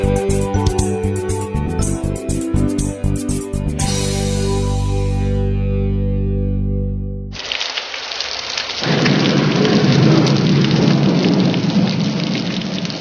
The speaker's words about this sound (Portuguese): Fortes chuvas atingem a região metropolitana de Belém, no Pará, entre os dias 16 e 17 de fevereiro de 2018. Na cidade de Barcarena, ruas ficam alagadas.